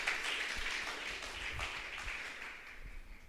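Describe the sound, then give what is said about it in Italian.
An audience applauding in praise of the name of the Lord, a dense, steady wash of many hands clapping together for a few seconds, holding an even level before easing slightly at the end, with no voices over it. “Oh, che meraviglia, gioisco, questo è il fulcro, vogliamo lodare e applaudire il nome del Signore.”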